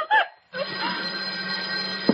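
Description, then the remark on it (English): A telephone bell rings loudly and continuously with a harsh, buzzing tone, starting after a brief vocal sound and a moment of silence. “You, Farmer, go answer the phone.”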